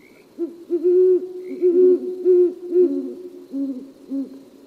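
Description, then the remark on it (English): A female and male pair of owls with feather-tuft horns hoot back and forth in a courtship duet at night in a neighborhood, a rapid series of deep, syncopated, rising and falling calls overlapping in a steady rhythm, fairly loud with no talking. “A female and male pair often join in a duet to begin their courtship.”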